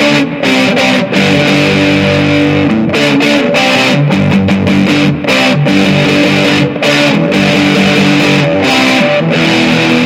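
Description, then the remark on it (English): Crunchy, fuzz-distorted electric guitar chords played on the treble pickup ring out loud, strummed in a loose rhythm with a wash of reverb from a Ghost Echo pedal trailing each hit. No one speaks. “So if you're hearing reverb, that's all from the Ghost Echo.”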